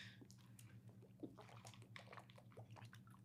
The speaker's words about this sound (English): I could actually hear you drink that water. Isn't it crazy?